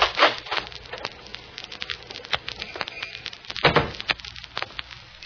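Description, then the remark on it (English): A glass lobby door is pushed open, with a quick clatter of handle and latch at the start, scattered clicks and taps, then a heavier thump-and-rattle partway through. “So when I open the lobby door, look at the reflection in the glass.”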